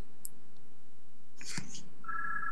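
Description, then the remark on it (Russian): A faint electronic telephone ring, steady and tonal, comes from somewhere away in another room, starting late after a few soft clicks and rustles, with no one speaking. “Сергей, там звонит у тебя телефон”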